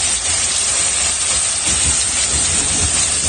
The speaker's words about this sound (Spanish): Esto que escuchas es la granizada que cayó ayer en Cullera.